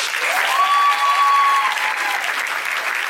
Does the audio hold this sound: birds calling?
no